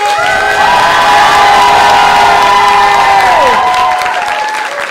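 audience applause and cheering

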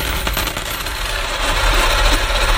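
coins dropping

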